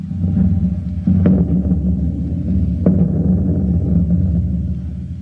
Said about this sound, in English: Now, wouldn't you be surprised to know that what you hear as thunder was simply an ordinary window screen being shaken and the sound being increased or amplified? You might be interested in knowing how this sound effect was originated.